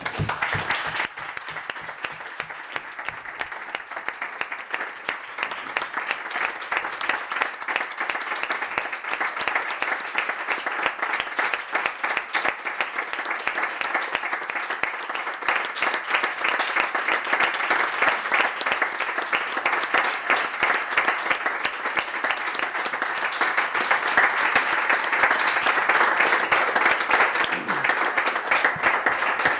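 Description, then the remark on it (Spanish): Sustained applause from a sizable crowd at a council plenary session, dense and steady clapping for about half a minute without pause, staying loud and even throughout with no talking over it. “Li fem un altre aplaudiment?”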